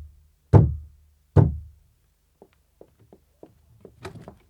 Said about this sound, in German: da klopfe ich mal an.